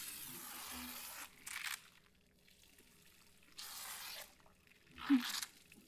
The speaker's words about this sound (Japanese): シャワーはどう？熱くない？